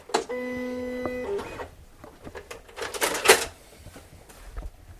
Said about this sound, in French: La machine, elle sert à quoi ? À découper. Ah, à découper. En fait, à l'oral, ça se raconte comme... C'est comme une imprimante, en fait. Mmh. Mais c'est une lame qui pivote sur elle-même et qui va être guidée par les fichiers que je lui envoie